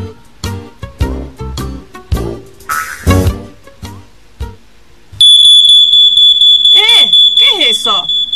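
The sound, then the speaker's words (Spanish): People talk for a few seconds, then a smoke alarm in a smoke-filled house cuts in with a loud, shrill, high-pitched tone that keeps sounding with little letup until the end. “¿Será por el humo?”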